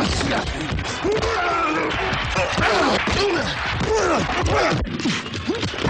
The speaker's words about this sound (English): I, too, used to relish the pop of crashing helmets, the sight of mid-air tackles.